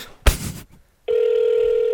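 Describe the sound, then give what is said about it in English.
A brief rustling thump gives way to a steady electronic telephone ringing tone, a loud, unbroken buzzy hum that holds for the final second without any talking. “I mean, it's ringing longer.”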